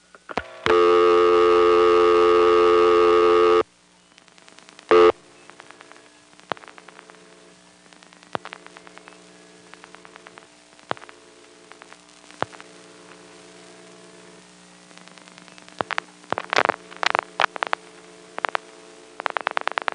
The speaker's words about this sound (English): One of the local exchanges is the 825 exchange, which is step by step. I'm going to dial a ringing number